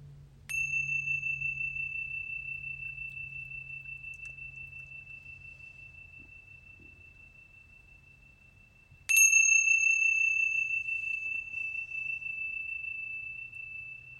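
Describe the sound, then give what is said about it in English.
A meditation chime is struck twice, about nine seconds apart, each clear metallic tone ringing out and slowly fading over a soft low hum, with no talking. “Wiggling your toes and your fingers, listening to the sound of the chimes all the way through, and then coming back into this space.”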